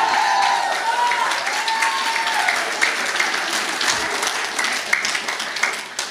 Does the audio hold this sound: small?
no